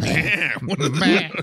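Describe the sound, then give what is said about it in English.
A person imitates a horse with a loud, nasal vocal snort-and-whinny, two wavering bursts with a short break between them. “Knowlton was described as a combative man who regularly snorted like a horse”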